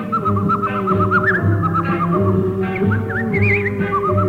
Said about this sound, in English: She sucks on ice cubes as she records. This, she says, contracts her mouth muscles and permits a more controlled pucker. Her whistling is almost as good as her singing.